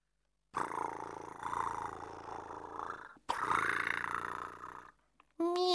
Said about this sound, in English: Meow. Oh, Otto, you can't have lunch now.